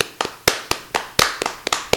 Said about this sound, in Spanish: Bueno, oye, a ver, un poquito de palmitas, venga, que si yo si no, no canto. Venga, palmitas.